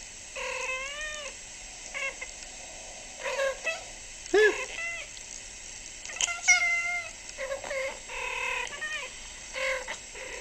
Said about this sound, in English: It's a kitty cat. It's two kitty cats. And I assume that they're making good noises at each other. So I'm going to turn on the audio. Is this what you guys do? Oh, man. Those are some good kitty faces and talks.